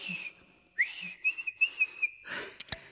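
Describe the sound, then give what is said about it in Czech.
A person whistles a short tune, a clear high tone sliding between several quick notes in a rhythmic run, then breaking off abruptly with a small click at the end. “Jenomže ať pískám, jak pískám.”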